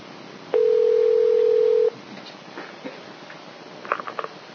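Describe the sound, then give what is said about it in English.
A loud, steady telephone dial tone holds for over a second, then cuts off, followed by quiet clicks and a quick cluster of short dialing beeps near the end. No one speaks. “So, who's on the phone?”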